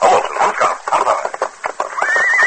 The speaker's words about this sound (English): saw a horse, saddled but riderless, emerge from a wooded area.